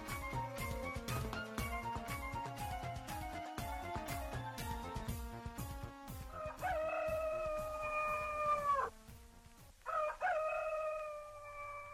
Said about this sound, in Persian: بله، اطفال سحرخیز با صدای قوقولی قوقوی خروس از خواب میخیزن.